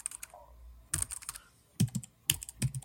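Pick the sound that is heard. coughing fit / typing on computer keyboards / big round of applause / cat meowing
typing on computer keyboards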